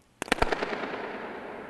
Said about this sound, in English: So let's listen to the sound of a balloon being popped at the spy station in Germany. Here we go.